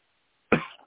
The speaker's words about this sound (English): And bear with me here. I'm coughing and choking a little bit. I'm just a mess.